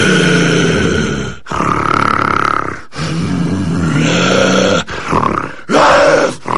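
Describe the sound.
A man voices a deep, guttural growl imitating a werewolf, in several loud, rough bursts of roughly one to one and a half seconds each, separated by brief breaths, recorded on a microphone in a sound booth.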